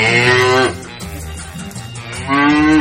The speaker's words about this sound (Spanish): No, nosotros vamos a poner a la vaca. La vaca es cuando estamos alegres. Vaca, por favor.